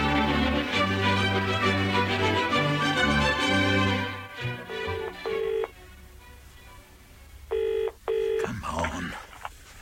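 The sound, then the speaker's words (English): After a few seconds of music, a telephone is dialed with short tonal beeps, then a double burst of ringing comes through the line, clear. “Brian has an important phone call to make.”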